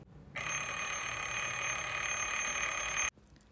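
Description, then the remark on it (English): A bright, metallic hand bell, rung by Dad in Chip's room to wake him, rings rapidly and continuously for almost three seconds, loud, then cuts off abruptly. No one speaks. “Dad came into Chip's room. He was ringing a bell.”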